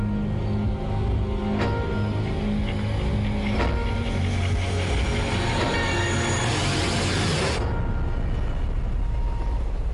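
A train rumbles steadily along the rails, a loud, continuous mechanical roar with occasional clanks, and a hissing high-end wash that cuts away near the end. No voices.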